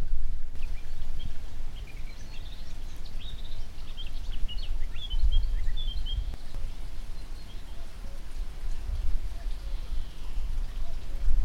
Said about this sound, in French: il y a plusieurs types d'oiseaux différents qui sont en train de chanter dans les haies qui sont autour de nous